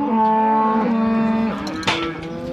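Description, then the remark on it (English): Loud, drawn-out moos from calves and cattle held in an old wooden holding yard in the corner of a paddock after the cows were drafted off, overlapping calls with strong harmonic tones, one long bellow followed by shorter cries, no talking. “Yeah, so this morning I brought all the cows and calves in and drafted the cows off. So we've just got the calves left in the yard, so we've got one dry cow over here as well that she'll go down the road.”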